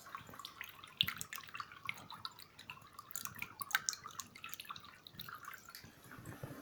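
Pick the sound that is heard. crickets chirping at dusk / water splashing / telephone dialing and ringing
water splashing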